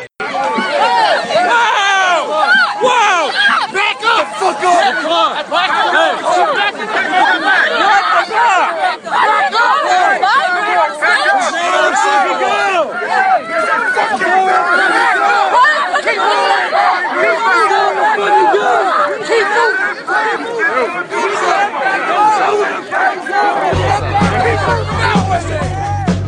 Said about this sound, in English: At about 9:30 p.m., Occupy DC started marching around the perimeter, waiting for the guests to emerge.